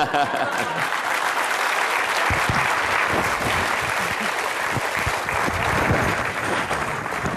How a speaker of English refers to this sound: Ladies and gentlemen, let's continue to give a big round of applause to Arianna Huffington for sharing her insights with us tonight.